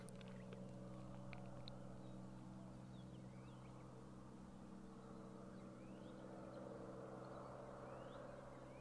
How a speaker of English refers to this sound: Random truck in the background.